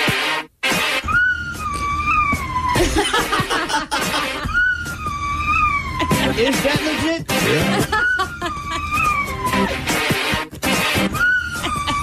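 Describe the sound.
A dog howls along to a loud, upbeat pop song in several long, wavering howls that glide up and down in pitch, while people talk and snicker over it.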